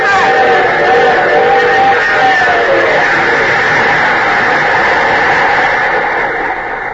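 A train engine roars past on the tracks in a train yard in a loud, steady wash of rumbling noise, with a droning tone that slides lower in pitch during the first few seconds before the roar carries on unchanged.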